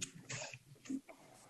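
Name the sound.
sneeze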